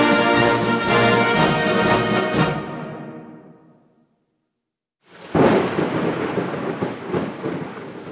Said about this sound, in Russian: Смолкли птичьи голоса, майский гром грохочет. Это первая гроза напугать нас хочет.